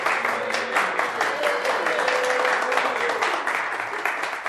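An audience applauds steadily, a dense wash of many hands clapping that holds at an even, fairly loud level throughout, with faint crowd voices mixed underneath.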